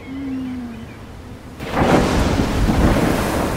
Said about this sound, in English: The fifth day was the storm.